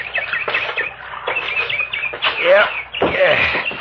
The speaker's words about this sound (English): Hey, listen to that bird. Sounds like San Diego on a bright June night.